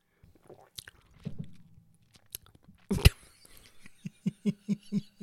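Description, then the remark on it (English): Someone takes a brief slurping sip of a sugared lime and cachaça cocktail, followed by a run of soft, rhythmic mouth and swallowing sounds, with no talking. “Okay, second sip. Would you care for some more sugar? Second sip.”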